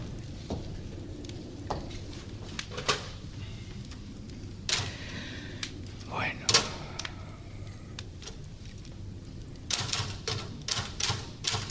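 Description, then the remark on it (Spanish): A man types on a mechanical typewriter, clacking in irregular bursts of sharp keystrokes, with a denser flurry near the end, over a steady low hum and faint background voices. “Un momento después, baja e inmediatamente se sienta frente a la máquina de escribir.”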